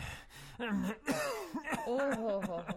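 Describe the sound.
Several harsh coughs and throat-clearing noises come in quick, uneven bursts, mixed with strained voiced sounds between them.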